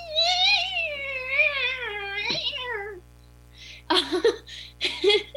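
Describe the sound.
A person lets out a long, wavering, strained yowl imitating a cat in pain for about three seconds. A short burst of laughter follows.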